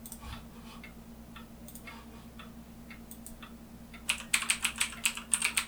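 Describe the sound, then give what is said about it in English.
Clicking of a new tactile computer keyboard as someone types into a web browser, starting with sparse scattered keystrokes and breaking into a fast, loud burst of typing near the end, with a steady low electrical hum underneath. “I have a new computer keyboard. This thing is so nice. It's so tactile.”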